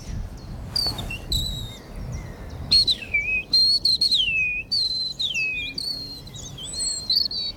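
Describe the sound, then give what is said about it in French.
A person whistles high, thin phrases imitating a European robin's territorial song, sliding and trilling in short bursts over a soft outdoor rumble in a forest clearing, clear, with no voices. “Là, il fait le rouge-gorge. Le rouge-gorge, le cri du territoire du rouge-gorge.”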